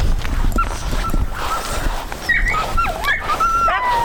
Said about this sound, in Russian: А это волк.